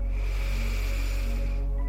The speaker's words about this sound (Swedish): Okej, jag räknar 2 gånger först. Andas in långt.